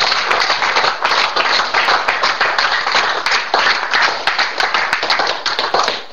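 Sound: audience clapping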